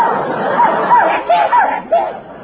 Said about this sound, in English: This dog's an idiot, you know. Maybe he don't understand English. Maybe that is it. He's an Irish setter.